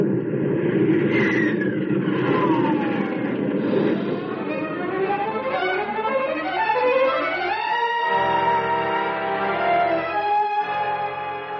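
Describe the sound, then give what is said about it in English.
A loud, continuous roar of the engines of two aircraft streaking through the night sky, searching for a large multi-engine plane, with whining tones that sweep up and down as the planes pass overhead, sustained throughout with no voices. “Two silver dots streak through the night, searching, probing.”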